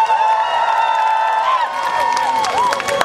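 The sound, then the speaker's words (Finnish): A crowd at a Pride event in Finland applauds and cheers loudly and steadily for the country's approval of the equal marriage law, with high whoops and shouts rising above dense clapping for about three seconds. “Sillä voidaan taputtaa jo monta kertaa tää illan aikana tosiaan.”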